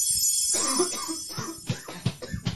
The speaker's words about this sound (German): Genau, habt ihr das gehört gerade, wie der Mann gehustet hat gerade?